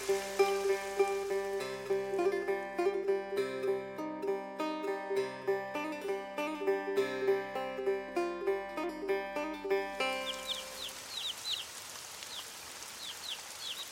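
Light rain patters softly and steadily among houses with thatch walls and gable roofs, coming through clearly once a stretch of music ends, with small birds chirping intermittently over the drizzle.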